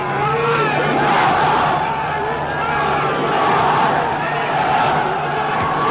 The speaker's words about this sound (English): his first experience of the warmth of an Asian welcome, as half a million or more Pakistanis gathered to see and cheer the President of the United States.